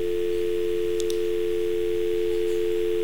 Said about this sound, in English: I'm thinking about the old phones. Anybody remember the old phones? You know, you used to pick up the phone. Did anybody remember that? And what was on there when you picked up the phone? A dial tone. You remember that?